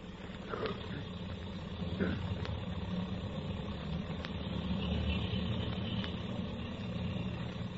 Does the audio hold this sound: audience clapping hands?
no